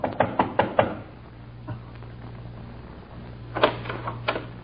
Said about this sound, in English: I went across the town to knock on another door.